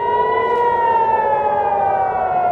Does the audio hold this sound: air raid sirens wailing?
yes